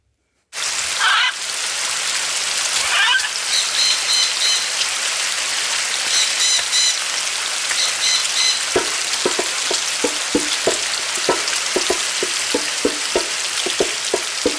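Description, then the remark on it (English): Bacon sizzles and crackles in a pan as a man cooks in his kitchen with a parrot on his shoulder, a loud, steady hiss with popping bits; about two-thirds through, a run of sharp, quick taps on a drum joins over the frying. “A man cooks bacon in his kitchen with a parrot on his shoulder.”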